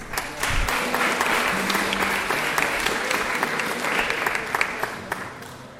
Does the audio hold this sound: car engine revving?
no